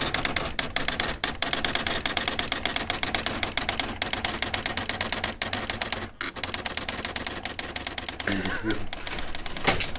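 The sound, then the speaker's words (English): An electronic typewriter with a printer port prints from a modern computer, its strikes hammering out in a fast, steady clatter that runs nearly nonstop for the whole stretch, broken only by a couple of brief pauses. “So I realised that with a little bit of software tweaking and some code making, I could get it to print from a modern computer.”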